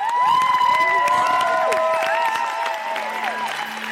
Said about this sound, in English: In a huge banquet room, I'm not the only one standing and cheering.